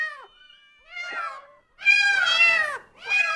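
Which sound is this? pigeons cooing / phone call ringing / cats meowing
cats meowing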